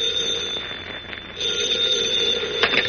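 telephone ringing

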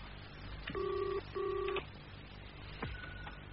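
telephone ringing tone

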